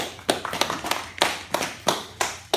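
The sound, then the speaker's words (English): A brief round of applause from an audience for volunteers: sharp, crisp claps arriving in an uneven, scattered patter for a couple of seconds, with no talking over them. “Can we have a clap for our volunteers, please?”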